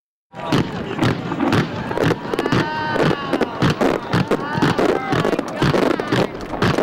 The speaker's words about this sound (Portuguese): Esses sons que você está ouvindo são de um arco-íris que ele criou com fogos de artifício.